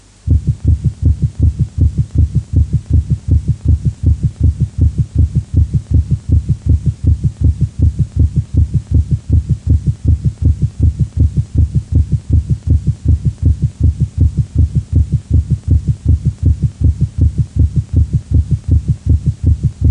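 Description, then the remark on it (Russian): Rapid, regular heartbeat thuds heard through a stethoscope, recorded from a patient with ischemic heart disease during a paroxysm of supraventricular tachycardia, fast and evenly spaced throughout, with a low booming resonance and a faint background hum, no voices. “Прослушайте запись, сделанную у больного ишемической болезнью сердца в момент пароксизма наджелудочковой тахикардии.”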